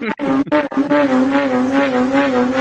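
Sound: lamborghini engine revving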